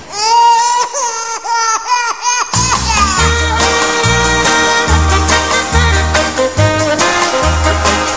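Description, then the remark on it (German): A baby in a cradle cries in loud, wavering wails for about two and a half seconds before a full band with thumping bass and drums kicks in and plays on. “Mein Girl hat keinen Tag für mich alleine Zeit, zum Küssen fehlt uns meistens die Gelegenheit, weil immer dann das Baby in der Wiege schreit und das geht.”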